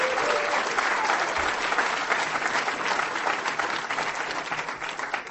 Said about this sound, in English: And I see some green shirts out here today. A round of applause for the volunteers for this conference.